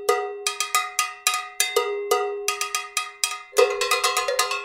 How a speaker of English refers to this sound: There's this video I found online of these three guys jamming on cowbells, and it's unbelievably fascinating. Huh. Everyone is playing such a deep polyrhythm that it's this cacophony, but it's awesome.